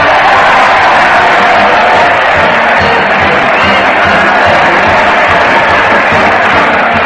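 crowd, crowd cheering

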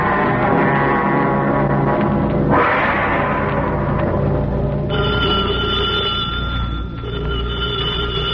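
signal or alarm, telephone bell ringing

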